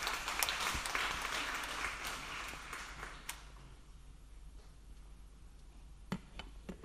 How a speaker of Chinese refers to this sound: 可不可以给掌声去鼓励他啊？